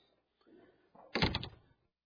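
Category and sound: household object, door being opened slightly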